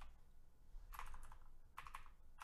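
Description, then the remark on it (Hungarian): Quick clusters of clicky computer keyboard typing, as someone searches online, come in short bursts with pauses between them, crisp and moderately loud over a low background hum, with no one talking. “Na most már rákeresek komolyan.”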